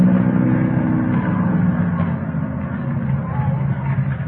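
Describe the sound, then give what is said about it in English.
A jalopy's engine runs steadily for a few seconds, a continuous low, throaty rumble with a rough, buzzing texture that holds at a fairly even loudness throughout. “Man, the engine sounds nice, doesn't it?”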